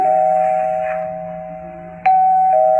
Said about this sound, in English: I rang the bell. It kept ringing and ringing. No one answered.